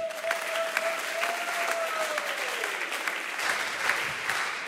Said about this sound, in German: Und wir geben dir jetzt hier nochmal einen richtig fetten Applaus.